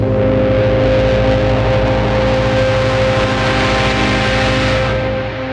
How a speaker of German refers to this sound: Diese Huperei hier, weil die Hauptstraße ist sehr katastrophal. Das Hupen der Autos. Ja, ja, also die sind hier sehr, sehr aggressiv, sage ja.